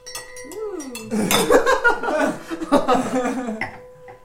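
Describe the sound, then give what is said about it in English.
Steady, pure ringing tones from the rims of drinking glasses being rubbed at a dinner hold at a few fixed pitches throughout, under bursts of laughter, clinking glassware and people talking. “No, you have to use a big glass.”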